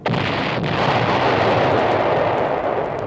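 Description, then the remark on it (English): A loud explosion of a bomb dropped from a plane flying directly over another plane bursts in suddenly and rolls on as a dense, sustained roar and rumble for several seconds, powerful, with no voices over it. “Bombs away and aloha.”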